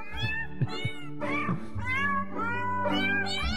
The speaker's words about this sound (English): It's the … singing you happy birthday.